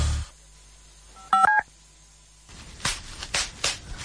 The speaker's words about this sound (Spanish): ¿Lo oyes? Sí, papel de burbujas. Es escucharlo y querer explotar una burbuja, otra y otra sin parar.